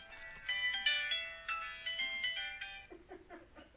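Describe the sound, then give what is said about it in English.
A melodic electronic phone ringtone plays a repeating tinkling pattern for about three seconds, clear, then cuts off as a faint voice begins. “And it looks like I'm going to have to answer the phone.”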